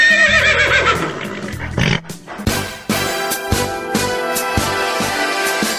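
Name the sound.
horse neighing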